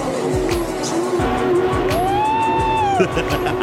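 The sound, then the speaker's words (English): Three small electric jet boats run on water, passing under tree stumps, with a steady mechanical rumble. One high motor whine swells up, holds, then drops away near the end. No voices. “We bought three mini electric jet boats”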